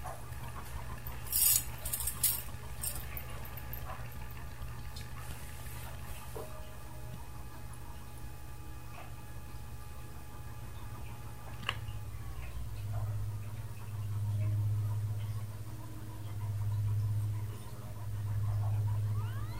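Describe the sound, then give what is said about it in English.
Bells ring with a cluster of bright metallic strikes early on, then sustained tones linger over a steady low hum that swells in slow, rhythmic pulses toward the end. No voices. “So we were just listening to the bells, so we're going to continue to do that for a little bit.”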